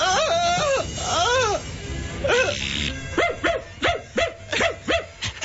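A dog yelps and barks repeatedly, starting with drawn-out whining howls, then a quick rhythmic series of sharp barks, fairly loud over a noisy background.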